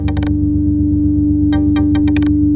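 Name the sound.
synthesizer sine wave tone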